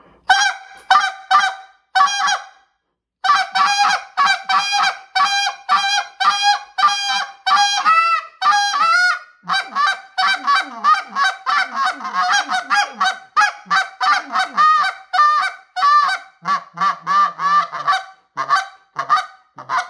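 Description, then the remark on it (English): A medium goose call blown while hunting geese, in a loud, rapid run of high-pitched honks, quickening into a fast chatter and then easing into slower, spaced clucks, with no talking. “I was able to get on it, get high pitch, get that high fast pitch, speed it up, and then slow it back down.”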